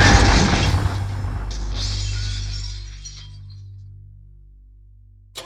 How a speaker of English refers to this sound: So we'd like to spend this hour with people's memories of that transformative event that has really become institutionalized in our culture, the car crash.